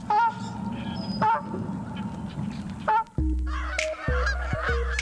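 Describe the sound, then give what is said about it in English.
Canada geese honk loudly and repeatedly, several birds calling over one another in harsh, nasal bursts, with a deeper droning honk taking over near the end. “Page 31, Canada Goose.”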